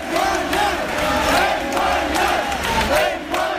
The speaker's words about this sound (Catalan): I al final, després de moltes hores d'expectació, la Policia Nacional s'ha acabat retirant. Això celebraven els manifestants.